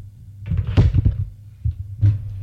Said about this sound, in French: L'on frappe à la porte.